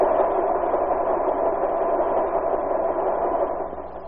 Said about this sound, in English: The roar of the presses. Every week these giant presses roll and keep rolling at tremendous speed, 15,000 an hour, until every last one of the 7 million copies of the American Weekly has gone through in full color.